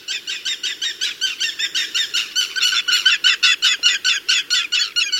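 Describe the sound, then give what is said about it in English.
An aplomado falcon calls in a rapid, steady series of loud, harsh, scratchy notes, about four per second, with no voices. “While work remains to ensure the bird's recovery, the handsome aplomado falcon appears to have regained a solid foothold in the American Southwest.”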